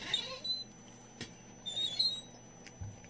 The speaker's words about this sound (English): I like the squeak of that chair.